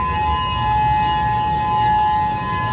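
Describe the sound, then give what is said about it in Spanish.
A tsunami alert siren sounds continuously in the morning on the island of Hawaii, United States, after an earthquake generated a tsunami across the Pacific Ocean. It is a loud, steady, high-pitched tone with ringing overtones that holds without rising or falling, over a low rumbling noise and no voices. “Así, por ejemplo, sonaban las alertas durante la mañana en la isla de Hawái, en los Estados Unidos.”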